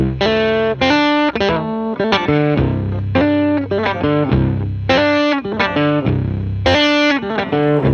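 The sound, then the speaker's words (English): Loud, heavily processed guitar chords ring out in bursts with brief gaps, played through a guitar effects pedal with fuzz and reverse effects switched on, drenched in distortion and swirling modulation effects, played alone with no talking. “I'm not going to take you through everything, because there's so many crazy different, there's interference, there's collage, you can imagine what some of those things do, phaser, tremolo.”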